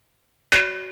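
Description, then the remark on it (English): A single metallic gong strike lands halfway through, a sharp attack followed by a bright, shimmering ring that sustains and slowly fades. No voices are present. “Gong.”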